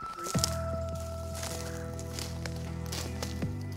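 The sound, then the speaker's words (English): Yellow plastic crime scene police tape is pulled and stretched to seal off the perimeter of a dig, giving a steady squeaky, humming strain punctuated by crinkly snaps and rustles. There is no talking. “he seals the whole area off with yellow crime scene police tape.”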